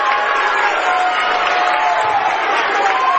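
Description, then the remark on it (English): A loud, steady roar of a student section crowd fills an arena during a basketball game, a dense wall of shouting and cheering that never lets up, so loud the officials can hardly hear the whistles, with faint whistle-like tones threading through. “This place is so loud, Ron, we can't hear the whistles.”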